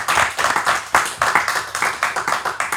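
A crowd applauds steadily, many hands clapping in a dense, crackling burst that keeps a fairly even loudness for a few seconds without voices.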